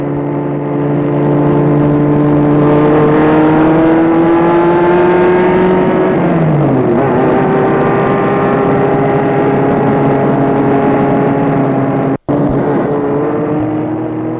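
A car engine hums loudly, its pitch rising steadily, then dropping briefly midway before climbing again as a man drives off in his car toward Paris in the morning. No voices.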